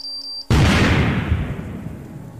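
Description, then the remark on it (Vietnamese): A sudden, loud explosion of explosives planted in the wiring of a signal transmitter in a pit bursts in after a brief tonal hum, followed by a long rumbling, crackling decay that slowly fades over the next two seconds. “Vừa phóng khỏi miệng hố thì bị vụ nổ hất văng đi mấy thước”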